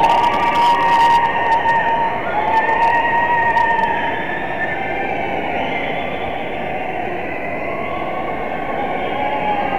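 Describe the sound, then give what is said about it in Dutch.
A large crowd of spectators lining the route cheers in a continuous loud roar under the Rijksmuseum, with shrill whistles and shouts rising above the din, sounding slightly echoey throughout. “Er staan ook allemaal nog steeds ontzettend veel mensen langs de kant die dit aanzien komen en zich aansluiten”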